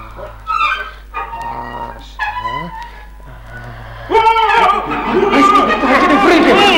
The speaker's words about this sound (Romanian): Am auzit niște șuirături și urlete îngrozitoare și m-am speriat.